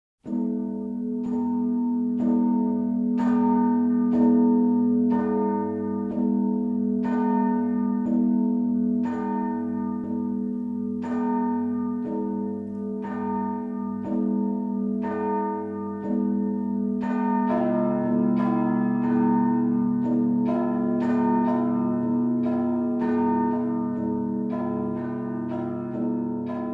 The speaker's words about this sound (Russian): Вот мы послушали, как звучат два главных очепных колокола Псково-Печорского монастыря, большой и полиелейный.